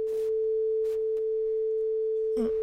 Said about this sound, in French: Alors, on va commencer avec le son de 440 Hz, qui est plus ou moins la tonalité du téléphone, du temps qu'on avait une tonalité de téléphone. Oui. Les cellulaires, on n'entend plus vraiment ça. Alors, voici donc 440 Hz.